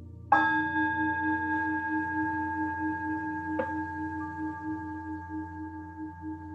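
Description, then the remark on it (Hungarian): A meditation gong is struck twice at the close of a guided meditation, a few seconds apart, each stroke ringing out in a clear, sustained metallic tone that hums on and slowly fades, with no voices present. “Figyelmedet visszahozod az itt és mostba, és a gong hangjára teljesen visszaérkezel.”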